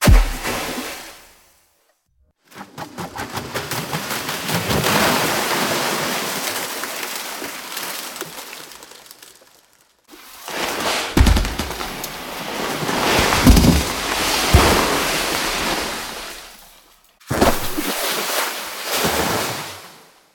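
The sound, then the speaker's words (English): A series of five enormous splashing crashes of the Empire State Building being dropped into the sea, each a long, loud roaring surge of churning water with deep rumbling thuds, separated by brief silences, no talking. “Dropping the Empire State Building into the sea, all five generations, goes like this.”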